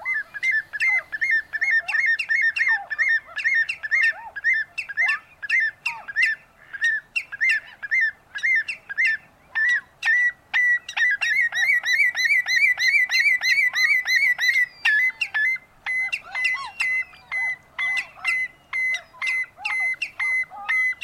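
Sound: common redshank calls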